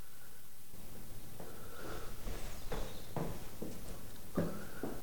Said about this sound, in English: She appears anxious when she hears footsteps, but relaxes when Rochester enters the room with the doctor.